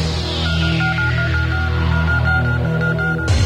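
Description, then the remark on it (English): A steady electronic telephone tone on the K104 radio call-in line, after a caller hangs up, hums without a break for about three seconds, then cuts off abruptly. There is no talking, only the continuous buzzy line signal. “There she goes. And hear the tones.”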